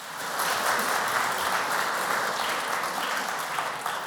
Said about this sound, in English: Well done, thanks. Let's give John a round of applause. Well done, John.